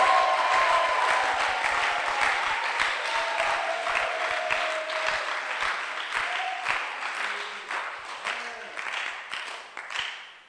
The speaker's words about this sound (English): There may be a million reasons why you cannot praise God, but if there's a half reason for which you can praise God, then I'm asking you to clap louder than before. Let me hear you.